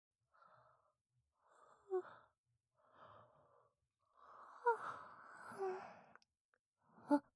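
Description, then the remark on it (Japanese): A drawn-out yawn: a few soft breathy intakes build into a long, voiced stretch that trails off, followed by a short breathy sound at the end. No one speaks. “あくび出た！すごっ！今日初めてのあくびだよ。”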